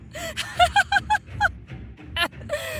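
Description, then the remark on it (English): Several swans honk in quick, uneven succession, a cluster of nasal, trumpeting calls, with a few scattered honks trailing off at the end. “Did you know that a group of swans is called a lamentation?”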